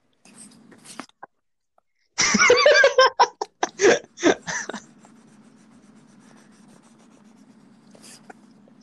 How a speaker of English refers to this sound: Who's doing that? Someone's scratching something. Is it like a marker on paper?